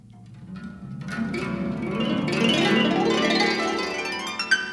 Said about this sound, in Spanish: ¡Qué cascada de sonidos nos produce el arpa con sus 35 cuerdas!